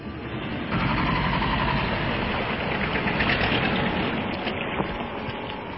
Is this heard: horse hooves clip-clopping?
no